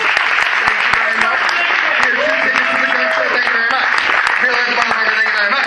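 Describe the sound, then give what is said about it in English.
A crowd bursts into steady applause, dense overlapping claps filling the whole clip, with a few cheers and voices rising through it. “So ladies and gentlemen, also, if I can milk you for one more set of cheap applause.”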